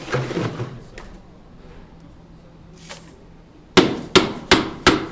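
Four sharp, heavy mallet strikes on ice land in quick succession near the end, following a stretch of low background murmur and a few fainter knocks.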